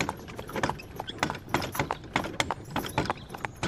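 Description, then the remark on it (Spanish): Horse hooves clip-clop in a steady walking rhythm as a horse is guided along the road from Bethany to Jericho through the countryside, each strike sharp, with a faint jingling of harness beneath the repeated beats. “Se ocupa solo de guiar el caballo.”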